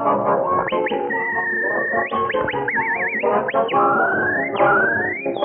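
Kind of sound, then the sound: human body sound, person whistling a tune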